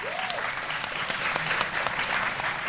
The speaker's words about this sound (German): Es gab Dönerwaffeln. Applaus für Dönerwaffeln.